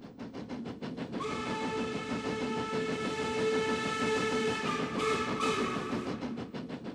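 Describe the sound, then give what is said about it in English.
A train rolls steadily along the rails with a rhythmic clacking, while a long, loud whistle sounds over it for several seconds before fading as the wheels keep rattling. “When I was 1 year old, 2 years old, 3 years old, up to about five or six, I took cross-country trains”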